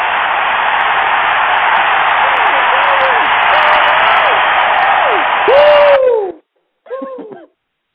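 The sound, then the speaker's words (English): A crowd roars and cheers in a steady, loud wash of noise for about six seconds, with scattered whoops rising above it, then it cuts off abruptly and a short voice follows. “And the crowd goes wild.”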